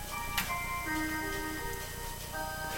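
A cuckoo clock in a lounge ticks steadily while it plays Amazing Grace, a chiming mechanical melody of bright sustained tones stepping through a slow tune, fairly quiet with no talking.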